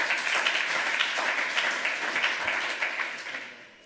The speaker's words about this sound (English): And had a very good reason for doing so, so give them a round of applause for getting that.